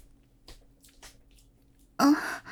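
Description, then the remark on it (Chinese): Heavy, labored panting after a long workout at the gym: a couple of soft, quick breaths followed by a loud, strained, breathy gasp at the end. No talking. “没事，我就练得太累了，所以在喘气了。”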